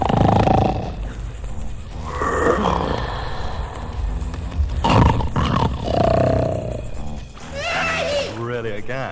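Loud, rasping snores up close, coming in long rough bursts one after another, each a deep growling rattle that swells and fades with the breath.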